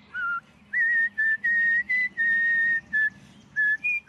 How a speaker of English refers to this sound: She is in her mid-80s, and she is a whistler.